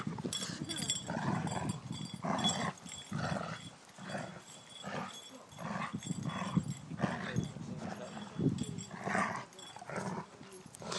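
A large dog, Malone, growls deeply and almost without pause, loud, in rough bursts of snarling, while a second dog joins with higher yelps and whines as they fight or play.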